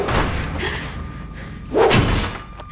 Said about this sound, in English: As guards take up positions down below, Gisborne attacks the door with an axe.